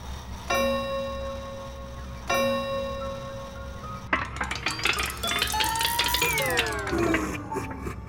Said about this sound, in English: Running her fingers along the dusty tapestries, the sound of a cuckoo clock rang out.